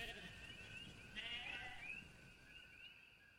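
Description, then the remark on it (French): A fleeing ewe bleats frantically in a long, quavering cry that wavers and surges without pause, heard fairly faintly, with no voices. “Il tomba dans le gouffre dans un râle de rage mêlé au bêlement effréné de la brebis qui s'enfuyait.”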